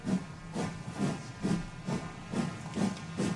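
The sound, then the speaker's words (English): A steam locomotive chuffs in a steady rhythm, about two breathy puffs per second, each a loud hissing burst of steam over a low mechanical thump, like a train pulling out of a station. “time to take commercial break by the time the thing actually sounds like a train”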